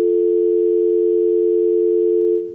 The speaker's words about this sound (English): Okay, it's not working. Okay. And we're also getting dial tones.